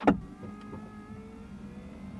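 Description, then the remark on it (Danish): A click, then the steady whirring hum of an electric car seat motor running as the seat moves into position after a button is pressed, in a luxury electric car, moderately quiet, with no talking. “Så kører rettet i position.”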